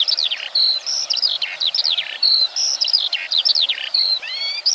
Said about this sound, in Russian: А я слышу чик-чирик, чик-чирик. Птицы кричат. Весело так, задорно. Чего они так развеселились, а?